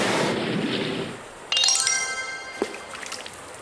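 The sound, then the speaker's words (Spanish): A rushing splash of water as someone dives into the water fades out, then a bright, shimmering cluster of chime-like ringing tones rings out and decays, with a short clink near the end. No one speaks. “No tuvo miedo de morir y se lanzó al agua a rescatar a su padre, siendo también tragado por el enorme animal.”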